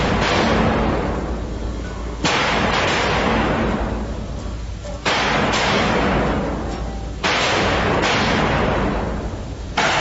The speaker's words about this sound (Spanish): Alrededor de las 2 de la tarde suena una fuerte explosión al interior del palacio.